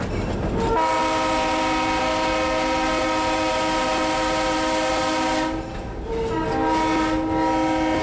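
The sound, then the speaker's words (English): The Cheat Mountain Salamander train of the Durbin and Greenbrier Valley Railroad rumbles along railroad tracks on its round trip to Spruce over very sharp curves, while its horn blasts a long, loud, steady note, then briefly cuts off and sounds again. No one speaks. “But this summer, the train began continuing the 9-hour round trip to Spruce, chugging along the sharpest railroad curves in the country.”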